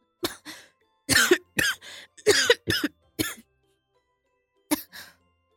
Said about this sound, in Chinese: 正低着头喝汤的老公却大力地咳嗽了起来。